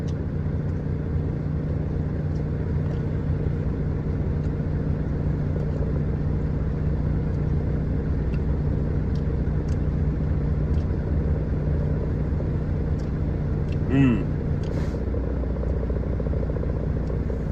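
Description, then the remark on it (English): A heavy truck engine idles with a steady low rumble and hum, then a single short burst of hissing air from the truck's air brake compressor cuts through near the end, with no talking. “That piss you guys just heard, that's a compressor for the air brakes.”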